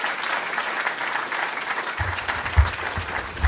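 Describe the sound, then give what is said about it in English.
Steady applause from a crowd fills the room, welcoming a speaker, a dense wash of clapping that holds throughout, with a few low thumps and rumbles joining in partway through. “Totally gratifying to hear that warm applause, that warm welcome, feel the love and solidarity in this cause”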